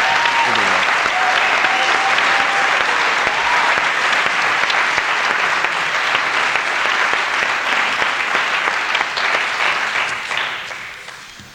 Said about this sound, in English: And I think we ought to have them stand up and give them a round of applause at this point.